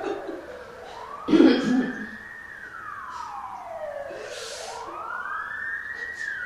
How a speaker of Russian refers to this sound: Скорая помощь, да? Или что?